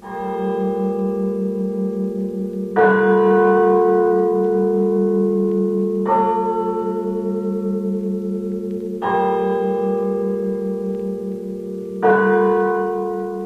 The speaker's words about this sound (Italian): Questa campana segna lentamente la fine di un uomo.